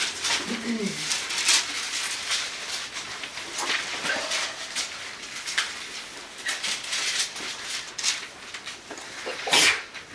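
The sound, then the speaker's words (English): A single sharp sneeze bursts out near the end, following several seconds of soft background noise, rustling and scattered faint sounds. “bless you.”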